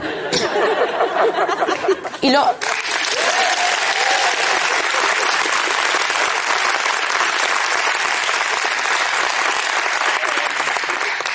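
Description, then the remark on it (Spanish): An audience bursts into sustained applause, dense steady clapping filling the whole clip, with a brief murmur of voices and a laugh mixed in near the start. “Temo que os han dado algo para que aplaudáis más.”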